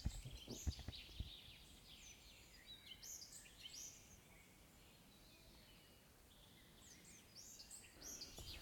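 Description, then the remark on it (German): Birds chirp and tweet in short, scattered high calls over a soft outdoor ambience, quiet, with a few faint knocks near the start and no talking. “In dem Sinne hören wir noch ein bisschen die Vögelchen zu.”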